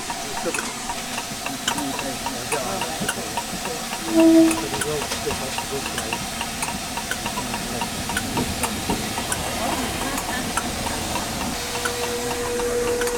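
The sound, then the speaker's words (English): A steam locomotive hisses steadily at rest in Glenfinnan station after another train has gone by, a broad continuous rush of steam coming out the funnels and round the edges, with faint clanks and a brief tonal whistle-like blip, voices murmuring softly in the background. “You can gather the atmosphere here as the train rests at Glenfinnan station. One train's gone by, steam's coming out the funnels and round the edges.”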